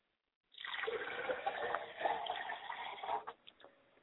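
Water is poured from a glass as a libation for a father's spirit, in a steady splashing stream for about three seconds, then stops, leaving a few soft drips. No voices are heard.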